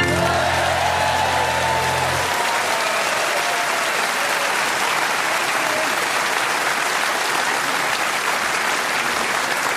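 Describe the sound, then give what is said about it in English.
A large audience in Richmond claps along to a song, loudly, steadily and slightly out of time, in a dense wash of hands. The tail of the sung song and its accompaniment cuts off in the first couple of seconds. “And who knew that the people of Richmond could clap along slightly out of time like that?”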